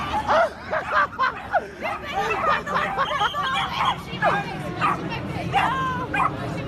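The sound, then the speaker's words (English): Several dogs bark and yelp over one another in a frantic, nonstop jumble, with the noisy murmur of a crowd running underneath throughout. “Dogs chaotically going in all directions.”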